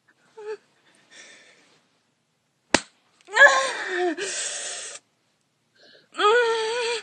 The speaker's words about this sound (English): give your pussy a little slap. Again.